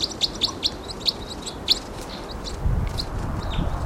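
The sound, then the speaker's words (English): A wild bird, seen hanging on the side of a tree, chirps in a quick series of short, high-pitched notes that come in bursts, set over a steady low rumble that swells toward the end. “I see one too, hanging on the side of a tree. Wild bird.”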